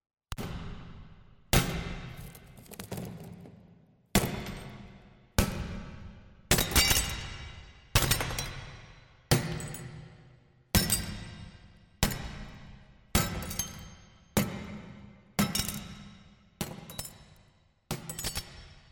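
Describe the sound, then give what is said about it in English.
Massive glass skylights are smashed with a hammer in a steady series of about a dozen loud, sharp crashes, each blow followed by a bright spray of tinkling, falling shards. No one speaks. “And then, so she could make it seem she'd bought these skylights from a New York auction house, she had us smash them with a hammer.”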